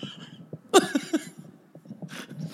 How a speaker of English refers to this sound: By the way, I just turned my mic off as I was coughing. And then realized we're in the same room, so your mic's going to pick up my cough anyway, so it doesn't fucking matter.